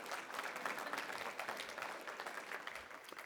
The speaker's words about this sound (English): Go ahead and clap. Harder.